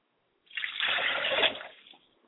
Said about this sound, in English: I like to pour libations, a glass of water to my father's spirit, Oromola, Obatala, and I say Ashe.